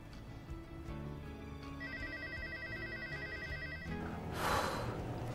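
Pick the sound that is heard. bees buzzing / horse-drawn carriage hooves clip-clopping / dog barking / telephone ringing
telephone ringing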